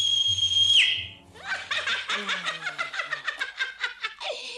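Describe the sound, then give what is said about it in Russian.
A loud, shrill human whistle holds one steady high note for under a second and then stops abruptly. A burst of rapid, rhythmic snickering laughter follows. “И выбежит на твой свист зверь невиданный, уши заячьи, глаза не знаю чьи, хвост львиный, да не такой длинный.”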